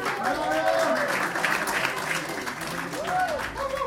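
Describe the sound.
An audience at a B-Teatro improvised comedy show applauds steadily for about four seconds, welcoming a third-year student, a dense, even wash of clapping, with a few voices calling out over it.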